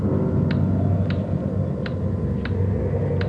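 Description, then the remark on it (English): A loud clock ticks steadily, five sharp clicks at an even pace, over a constant low rumble of wind on a windy day. No one speaks. “Sure a loud clock.”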